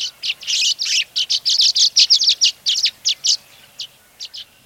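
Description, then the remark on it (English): A rapid stream of high, bright twittering chirps from scores of violet-green swallows arriving after migrating from the south, swirling and swooping, dense and overlapping at first, then thinning into scattered calls. Clear, with no voices. “We looked up to see scores of violet-green swallows arriving from their winter homes thousands of miles to the south.”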